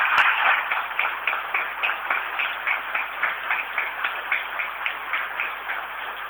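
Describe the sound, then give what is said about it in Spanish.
Steady applause from an audience for the IPETIM students who staged the act for Brinkmann's 130th anniversary, a dense wash of many hands clapping at a lively, even pace, sustained at a fairly constant level for several seconds with no talking over it. “Creo que fue muy emocionante y le creo que se merece un fuerte aplauso porque fue un trabajo espectacular, ¿no?”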